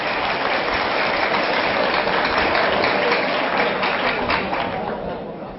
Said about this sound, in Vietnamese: Và nếu thấy được điều đó và cảm thông được điều mà chúng tôi chia sẻ, thì mong các quý anh chị hãy dành một tràng vỗ tay để đề cao cái tinh thần học như của mình.